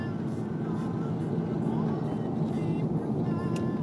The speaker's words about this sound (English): This guy backing out into the middle of the road. That's traffic right there.